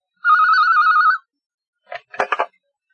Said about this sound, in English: She hears the telephone and answers it.